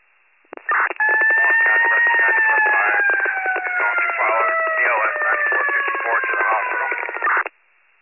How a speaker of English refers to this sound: I don't know what your last transmission was. The sirens are too loud.